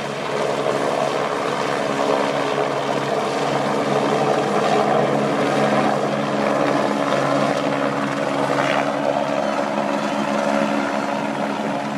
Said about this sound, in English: We were on a ledge above the crowd, so we were a bit away from them. But the helicopter was overhead. You can hear the thwacking of the blades, and it was pretty dramatic.